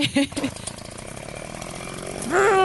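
A person vocally imitates a chainsaw revving while recording a homemade horror story: a steady, buzzing drone held for a couple of seconds after a few choppy bursts, then swelling louder with a rising whine at the end.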